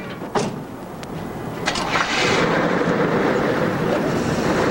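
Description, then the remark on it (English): A car engine cranks with a few sharp clicks and bursts, then catches and settles into a steady, loud rumbling idle that continues to the end, as the people get in and drive away. “And drive away.”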